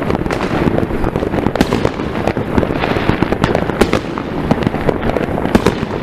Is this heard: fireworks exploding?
yes